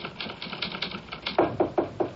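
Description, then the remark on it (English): A typewriter clacks away in a quick, steady rhythm, each key strike a crisp mechanical snap. The strikes grow louder and sharper toward the end, with no voices. “Oh, I heard your typewriter, so I knew you got in, finally.”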